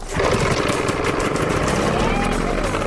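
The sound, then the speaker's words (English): A propeller aircraft engine, started and run by a team checking it before a competition, roars at a steady, loud idle, running continuously with a rough, sputtering rumble; indistinct voices may be buried beneath the noise. “The teams must check that their engines start and run smoothly.”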